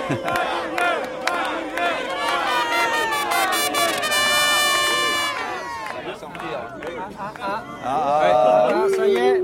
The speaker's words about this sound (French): C'est la sortie des écoles.